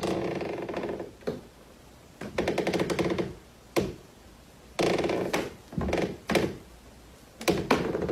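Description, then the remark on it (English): A wooden floorboard creaks in a series of slow, groaning strains, about eight separate creaks with short silent gaps between them, fairly loud, with no voices: a Foley effect of a creaking floorboard in a haunted house. “one of the most iconic examples is a creaking floorboard in a haunted house.”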